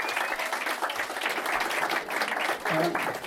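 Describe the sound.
An audience applauds steadily for several seconds, a dense, even wash of many hands clapping at once, with faint voices mixed into the noise.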